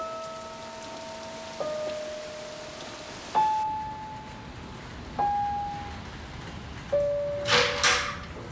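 door being opened

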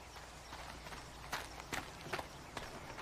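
footsteps approaching

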